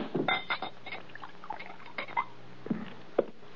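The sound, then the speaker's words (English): A drink is poured into a glass inside a wagon in short, splashing spurts, with faint glassy clinks, ending in a sharp tap of glass. Fairly quiet, with no talking. “Pour this down.”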